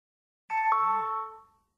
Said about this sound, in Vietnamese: Tracy nghe tiếng chuông gọi cửa và đi xuống cầu thang trong trạng thái nửa tỉnh nửa mê. Otto Smith đứng trước cửa.